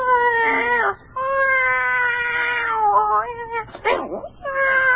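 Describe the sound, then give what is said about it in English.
A cat named Voodoo meows insistently and agitatedly at night in long, wavering, harmonic cries, several drawn-out yowls following close together with brief pauses, loud. “And that night, for the first time, I was awakened from a sound sleep by the strange behavior of my favorite cat.”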